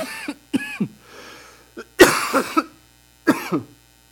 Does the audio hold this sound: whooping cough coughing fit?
yes